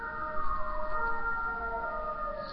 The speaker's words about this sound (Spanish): Perdón, son una ambulancia, lo siento.